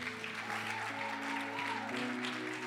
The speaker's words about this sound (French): Maintenant, alléluia, vous pouvez applaudir.